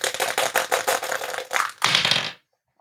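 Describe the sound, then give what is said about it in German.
A twenty-sided die clatters across a hard tabletop in a quick run of crisp taps, ending with a louder rattle before it settles into silence; it is rolled to pick discussion topics. “wir würfeln unsere Themen jetzt wieder”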